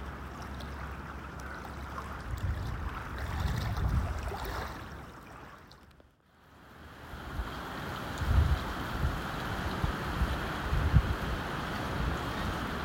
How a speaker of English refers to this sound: May be able to hear in the background, the wind is definitely making those waves lap in at my feet.